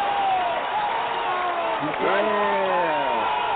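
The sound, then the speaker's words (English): A few voices imitate a cheering crowd with rising whoops and hollers, loud, layered over a steady noisy background. “The crowd goes wild. Woo! Woo-hoo!”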